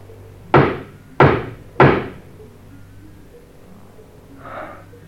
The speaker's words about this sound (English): This is the number. Let's knock.